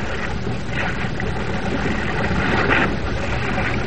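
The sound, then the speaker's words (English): A ship's engine slows down, droning in a steady, fairly loud low rumble with a broad hiss over it, running continuously with no voices present. “The ship's engine. Yes. We slowed down.”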